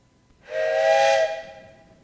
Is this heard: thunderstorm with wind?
no